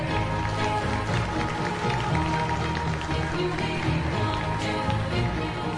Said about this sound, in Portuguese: Por isso, peço a ele uma forte salva de palmas.